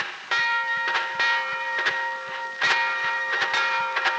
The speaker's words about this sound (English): I guess that be our train.